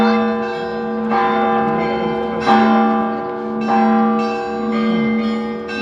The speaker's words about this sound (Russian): Ребята могут выбирать звон как на большой соборной колокольне, так и на малой передвижной звоннице.